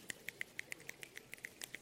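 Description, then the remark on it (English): Scattered finger snaps from several people overlap in an irregular patter, sharp and bright, imitating light rain falling. The snaps are fairly quiet and steady, with no voices. “Starting to rain a little bit”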